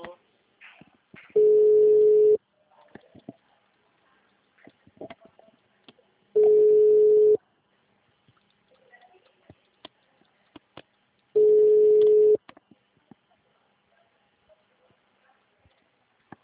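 A phone line rings back three times, each a steady, low, loud tone lasting about a second and repeating roughly every five seconds, with faint clicks and line noise in the gaps.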